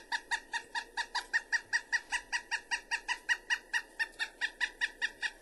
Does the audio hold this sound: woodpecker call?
yes